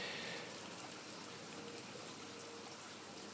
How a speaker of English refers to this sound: It's a great sound as well, the rain, isn't it?